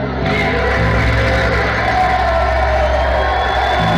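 A large crowd roars steadily, cheering and whooping at full volume, a dense, unbroken wall of noise lasting the whole stretch without any single voice standing out, as the room at an event where Steve Bannon gave a speech stands and gives a woman a standing ovation, with Bannon applauding.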